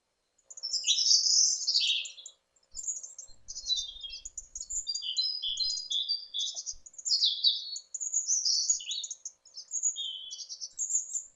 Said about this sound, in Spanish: Este es un ejemplo de un contenedor de pájaros.